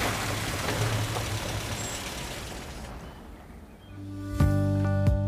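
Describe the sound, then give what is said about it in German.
A car, waved over by Rudolf August Oetker to take him home from the factory, rumbles in over a steady wash of road noise, then pulls up and stops, its engine settling into a low idle hum punctuated by two sharp hissing brake bursts. “Rudolf August Oetker lässt sich von seiner Frau aufhelfen und winkt den Wagen heran, der sie von der Fabrik nach Hause bringen soll.”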